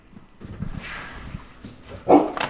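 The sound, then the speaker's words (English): A dog lets out a sharp bark near the end, followed quickly by a shorter second yap, after a stretch of low rumbling background noise. “There's a new dog.”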